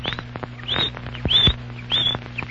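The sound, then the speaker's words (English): A canary named Chirpo chirps out the time in a short series of four or five bright, high chirps spaced about half a second apart, clear over a low steady hum, with no one talking. “It's not just an ordinary canary.”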